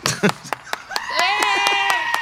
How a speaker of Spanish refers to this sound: Aplausos para